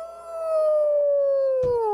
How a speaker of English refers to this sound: Because that sounds like a sick, sick puppy.